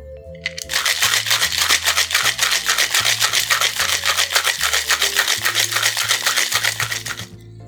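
A cocktail shaker holding ice, creme de menthe, white creme de cacao and fresh cream is shaken vigorously: loud, rapid, steady rattling of ice for about seven seconds, with soft music playing underneath and no talking.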